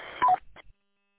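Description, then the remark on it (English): An amateur radio roger beep: a quick two-note electronic tone, higher then lower, sounding loudly over a bed of static hiss before the transmission cuts off in a brief crackle of squelch. “Okay, so the Roger beep is definitely there.”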